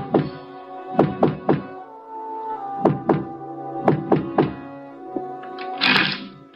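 Knocking on a door: dull, solid thuds in short groups of two or three, repeated several times over a steady low hum, with no talking.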